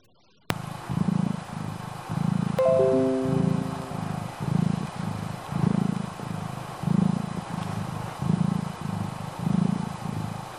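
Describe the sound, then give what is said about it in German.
A cat purrs steadily, a low rumbling rhythm of regular pulses throughout, with a few brief faint tones sounding partway through. “Eine schnurrende Katze.”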